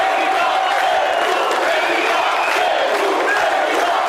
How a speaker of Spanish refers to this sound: Je dédie vos applaudissements et vos sifflets.